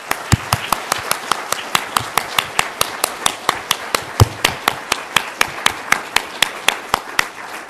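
An audience claps in a steady, even rhythm to welcome a woman who has just confessed her faith in Christ, roughly four sharp claps per second, sustained for several seconds at a fairly strong level with no talking over it.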